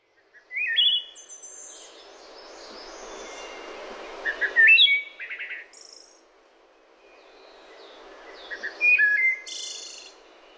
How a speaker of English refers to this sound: Yeah, we sit on our screened-in porch, which is her idea, too, to listen to this wood thrush. It is a beautiful bird.